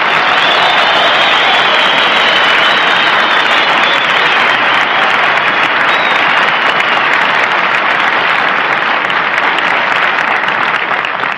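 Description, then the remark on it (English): A propeller plane engine drones steadily in flight to Marchfield, a dense, unbroken roar with a thin high whine riding on top, holding the same loud level throughout without pause. “I tried to sleep, Bob, but I was worried about this plane. I've never flown at this altitude before.”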